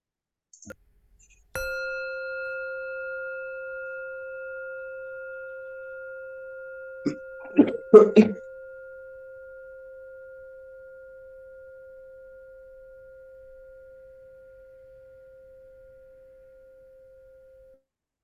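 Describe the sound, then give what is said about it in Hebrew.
A meditation bell is struck once and its clear, steady tone rings out alone, slowly fading over many seconds; a few soft clicks and rustles sound partway through as the ring lingers. “יש לי פעמון פה.”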